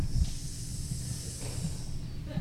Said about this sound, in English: Why did someone just hiss?